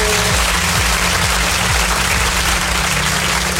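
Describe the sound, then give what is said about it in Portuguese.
Steady, dense applause from an audience, loud and continuous for several seconds, with a low hum running underneath and no voices. “Palmas! Aê!”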